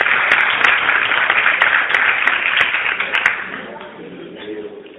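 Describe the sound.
A crowd breaks into strong applause, a dense wash of clapping that holds steady for about three seconds and then fades as a few voices emerge underneath.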